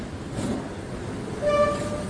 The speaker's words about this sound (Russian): Прохладным вечером перрон быстро заполнялся людьми, суетливо выходившими из фирменного поезда «Москва-Казань».